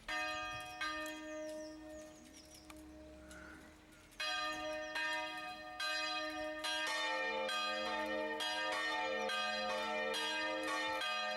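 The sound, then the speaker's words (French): Church bells ring out loudly, with repeated strikes whose rich metallic tones overlap and hang in the air, building into a steady peal. No one speaks. “Et on a besoin d'aller plus loin là, sur une des cloches, là, donc la numéro 2 à Rumingol, qui elle a besoin d'être fendue parce qu'elle est fendue.”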